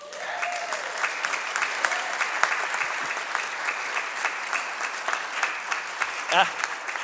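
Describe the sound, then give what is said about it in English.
An audience claps steadily for several seconds for the speaker's 60th birthday, a dense, even patter of many hands with a few sharper individual claps standing out, and no talking over it. “I appreciate the clap, but I got to tell you, it shook me to my core.”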